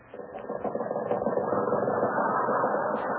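An old Maxwell car engine, fitted with wings as an airplane, sputters and clatters steadily for about three seconds, a dense, rattling mechanical chug with a few brief higher squeaks on top and no talking.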